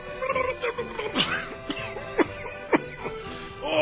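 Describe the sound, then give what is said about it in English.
A person holding an ale coughs repeatedly in short, sharp bursts, several harsh coughs spaced unevenly over a few seconds, fairly loud with some throat-clearing sounds between them. “Oh, I'm coughing so much I can't control my ale!”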